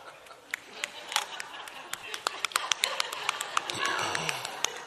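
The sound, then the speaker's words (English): A single hand clapping, fingers slapping against the palm in quick, irregular sharp snaps that grow denser and busier over a few seconds, above a steady low background murmur. “What is the sound of one hand clapping?”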